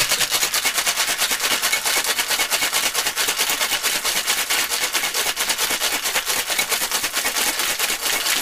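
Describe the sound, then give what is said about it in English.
A lidded cocktail shaker full of ice is shaken hard and fast for about 12 seconds, until frost forms on the outside, making a loud, steady, rapid rattling clatter that runs evenly for the whole clip with no talking. “Iced up the shaker. And he's going to put the lid on, I hope.”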